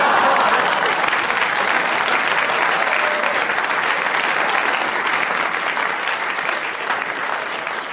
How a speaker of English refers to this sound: Why is the audience clapping and laughing? If I could turn you out, I would, you know. They recognise a universal truth when they hear it.